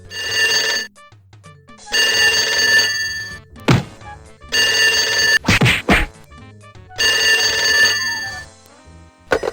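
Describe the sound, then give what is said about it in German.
A telephone bell rings in long bursts with pauses between, while heavy thumps and thwacks land in the gaps, loud. They come from a scuffle between two men racing to answer it, one leaping over a desk and being kicked in the face. “und dann klingelt das Telefon. Und dann rennt Max los, spurtet zum Telefon”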